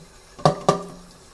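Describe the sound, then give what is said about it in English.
Two quick metallic clanks of a very hot pan knocking against a sink while dishes are being washed, each with a short ringing tone, fairly loud, followed by a quiet background hum. No one speaks. “Don't you just love doing dishes? Especially with a very hot pan.”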